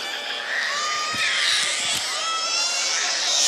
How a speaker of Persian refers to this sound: بیا باباش، بیا باباش، بیا. قربونت برم، من طاقت ندارم شماها گریه کنی.